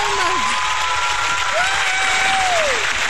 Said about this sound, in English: Round of applause. Thank you.